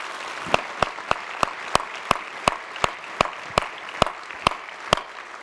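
An audience applauds steadily, a dense wash of clapping with a few sharp claps ringing out at a regular pace on top, in a round of applause for two artists in Spokane. No one speaks.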